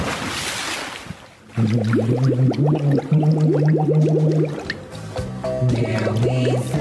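A splash as a person jumps into the water, then a muffled voice singing a song underwater, the humming melody warbling and gurgling through a steady stream of bubbles for several seconds.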